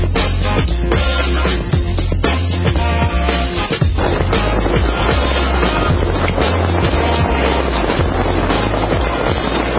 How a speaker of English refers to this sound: Denver got slammed with hail. Can you hear it? It's a great sound when your car's not getting pelted.